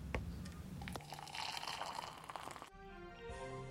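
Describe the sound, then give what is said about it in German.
Water splashes steadily into a glass for a couple of seconds, a bubbly pour, then stops abruptly as a steady musical tone takes over. “Kann ich Ihnen ein Glas Wasser anbieten?”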